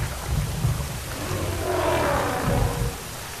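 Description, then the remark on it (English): Steady heavy rain pours down on a forest clearing at Mbeli with a broad hiss, while deep rumbling in the low end suggests thunder rolling underneath; no voices. “And no day at Mbeli is complete without some rain. Filling it all up again for the animals.”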